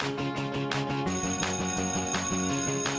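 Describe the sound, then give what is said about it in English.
A school bell sounds as a bright electronic chime, playing a short stepped melody of sustained ringing tones that repeats steadily and loudly for several seconds, with no voices. “That's the school bell.”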